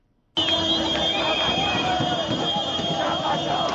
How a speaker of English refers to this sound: The wild cheers and car horns of Zimbabweans celebrating the end of Robert Mugabe's iron-fisted rule. After 37 years in power, the 93-year-old president resigned yesterday, giving in to pressure from his party and Zimbabweans at large.